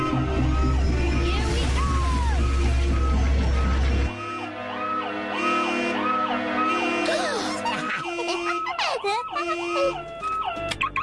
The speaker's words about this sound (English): And the car alarm is included. Absolutely no extra charge. So what do you think? That's an anti-theft device.